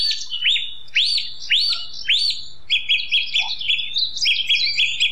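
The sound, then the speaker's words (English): Clear, loud dawn chorus birdsong at Knockrear in Killarney National Park, just after 9 o'clock: a series of four sweeping, arched whistles gives way to quick, high repeated chirping phrases, with no voices and only a faint low hum beneath. “Now at just after 9 o'clock, at the last stop in our down chorus walk at Knockrear in Killarney National Park”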